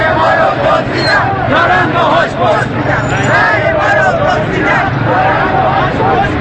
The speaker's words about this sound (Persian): پایش که به خیابان می رسد صدای اعتراض مردم را می شنود.